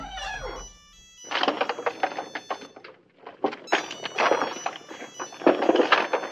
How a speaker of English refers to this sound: the Juno hamburger phone, that's the one that's ringing now